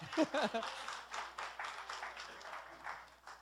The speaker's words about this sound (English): Go ahead, you can clap for her. She needs a hand clap. She puts up with me.